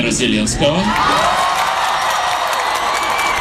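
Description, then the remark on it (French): A crowd of about 3,000 people cheers and screams in a loud, continuous roar as comedian Volodymyr Zelensky of Studio Kvartal 95 appears on stage, with scattered clapping and high whoops, and a few voices shouting out briefly near the start. “Quand le chef de file Volodymyr Zelensky apparaît, c'est le délire réservé à une grande star.”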